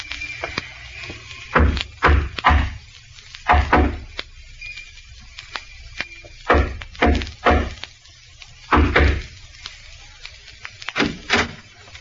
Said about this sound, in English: Remember the code knock? Yeah. 3 long and 2 short.